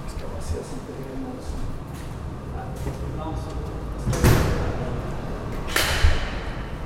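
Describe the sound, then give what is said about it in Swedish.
A heavy blast door, a shock-wave door that protects against shrapnel, is worked open and shut: two loud, echoing metallic thuds a second or so apart, with faint voices and movement in the background. “Och det kommer vi, när vi går igenom här nu så kommer vi se stötvågs dörrarna och det skyddar mot splittret.”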